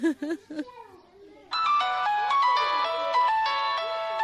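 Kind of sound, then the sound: signal or alarm, mobile phone ringtone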